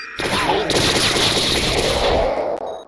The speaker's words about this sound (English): Oh! Flamethrower.